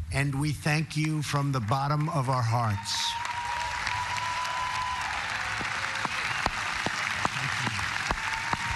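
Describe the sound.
At the commemoration of the 75th anniversary of the Normandy landings, a man speaks briefly, then an audience including more than 170 World War II veterans breaks into sustained, steady applause, with a 94-year-old veteran standing to clap; a dense wash of clapping holds at an even loudness until the end.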